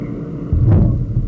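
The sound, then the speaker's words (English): A car engine is started with the key in the ignition and revs into a deep, throbbing rumble as the car is put in drive and driven off, swelling briefly before settling into a steady low drone; fairly loud, with no voices. “Put on a brake, start it on up, throw it in drive and put your foot on the gas and you're gone.”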